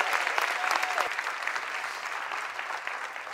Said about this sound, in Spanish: Dale un aplauso bien fuerte.